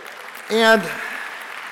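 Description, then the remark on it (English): Steady audience applause, a dense patter of clapping that carries through the whole moment, with a brief voiced shout or cheer rising over it near the start. “we keep the applause going, okay.”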